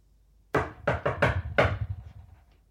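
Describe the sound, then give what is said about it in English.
Five sharp knocks on a door tap out an uneven, patterned rhythm, a secret knock done to get the door opened. They are fairly loud, each with a short woody ring, and no one speaks. “I have to do the secret knock to open the”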